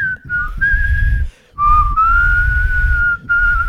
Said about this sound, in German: Ist doof, wenn man lachen muss, kann man nicht pfeifen. Ja, ich habe das jetzt nicht gepfiffen, weil ich wusste, dass ich lachen muss. Versuch mal jetzt, wenn du lachst, zu pfeifen. Krass, professioneller Pfeifer.